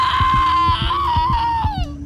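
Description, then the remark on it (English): A woman screams in panic in a sustained, high-pitched wail that wavers and falls off at the end, loud, with a low rhythmic thudding underneath. “And then she started screaming.”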